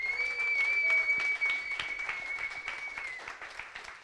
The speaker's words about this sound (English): And then, biggest of all, thanks to all of you who have put this program together. Give yourselves all a big round of applause.